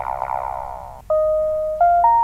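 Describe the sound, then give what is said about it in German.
A fully digitalized, networked smart kitchen oven's electronic signal: a buzzy, warbling tone gives way to clean sustained beeps that step upward in pitch, forming a short rising chime melody with no voices. “So klingt ein Backofen.”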